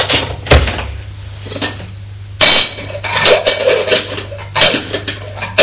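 Metal pots and pans clatter and clink inside a kitchen cupboard as a woman opens the cupboards and looks over the saucepans, several sharp knocks and rattles at irregular intervals, loud, with no voices.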